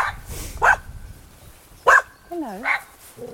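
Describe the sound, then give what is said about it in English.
A dog barks a few times in short, sharp bursts, followed by a rising whine, with some background noise. “Hello, dog.”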